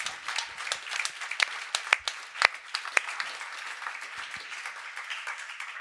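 A crowd applauds steadily for several seconds, a dense wash of many hands clapping with a few sharper, louder claps standing out near the start, sustained throughout.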